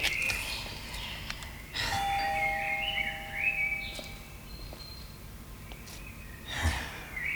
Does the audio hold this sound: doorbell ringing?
yes